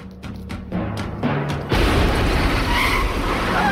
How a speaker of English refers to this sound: The trash can explodes, making a yellow cab career into parked cars.